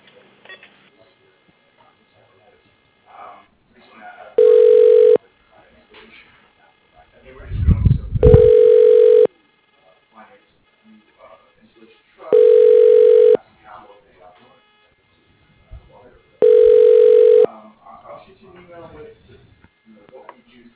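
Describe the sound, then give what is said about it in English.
A telephone ringback tone plays during a call transfer: four steady one-second rings spaced about four seconds apart, clear, with faint background murmur and a brief low rumble between them. “Please hold while I transfer your call”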